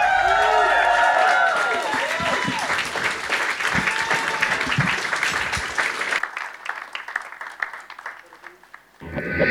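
A crowd applauds with dense, steady clapping and some cheering and whistles over it, carrying on for several seconds before thinning out toward the end.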